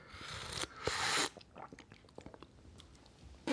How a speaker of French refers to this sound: On prend une petite gorgée.